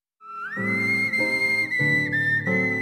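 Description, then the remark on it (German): A whistled imitation of a bird call by a bird-voice imitator: one sustained, high whistled tone that swoops upward and then holds, shifting in small pitch steps over a steady lower tonal backing, with no talking. “Jahrelang trainieren sie ihre Stimme, pfeifen durch die Zähne, lassen das Gaumenzäpfchen flattern.”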